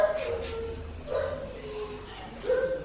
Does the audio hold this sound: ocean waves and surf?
no